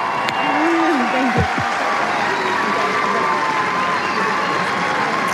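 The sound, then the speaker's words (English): A large tennis stadium crowd claps steadily and loudly for the full stretch, applauding the winner who has just beaten the world number 2, a dense, even wash of applause with a brief voice cutting through near the start. “merci encore une fois d'applaudir la vainqueur aujourd'hui qui vient de battre la numéro 2 mondiale”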